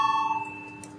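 A parliament voting bell rings steadily before a vote on a proposal, with a bright, sustained metallic tone that fades slightly over about a second, heard alone with no talking.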